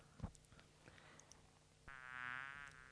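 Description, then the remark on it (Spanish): A fly buzzes, a steady droning hum that starts partway through and holds to the end, following a few faint clicks and taps. No one speaks. “Eso es una mosca.”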